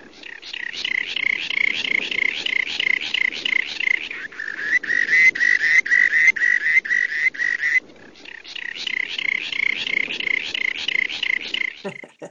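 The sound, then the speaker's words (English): A rock sandpiper gives a long, rapid trill of buzzy, evenly spaced pulses at a fairly high pitch, strong and steady, breaking off twice briefly before resuming, with no voices. “So our last bird this week that you selected is the rock sandpiper, and it's a little more melodious than the first two, thank goodness.”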